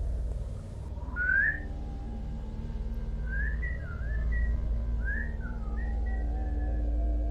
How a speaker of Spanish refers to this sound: Empecé a escuchar silbidos, lejanos.